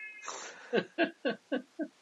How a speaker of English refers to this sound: Someone's cat is very angry in the background. I can hear it. My cat.